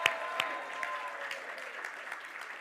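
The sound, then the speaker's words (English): A church audience applauds a newly married couple, many hands clapping together in a dense, even patter with a few sharper claps standing out, sustained throughout at moderate loudness with no speech. “Could we give them a round of applause and praise God?”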